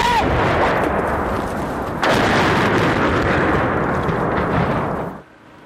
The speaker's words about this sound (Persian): حملات هوایی روسیه به چرنیهیف در شمال اوکراین و خروج سراسیمه ساکنان.